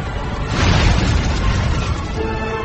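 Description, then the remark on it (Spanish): Explosions from six burning fireships that keep exploding as they drift roll out as a loud, continuous low rumble with crackling noise, swelling to a peak early on and then sustaining with no voices present. “Logran hacerlo en 2 de los casos, pero los otros 6 no, y siguen explotando allá por donde van.”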